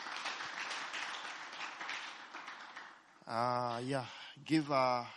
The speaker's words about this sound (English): Thank you, worship team. Give the worship team a big hand clap.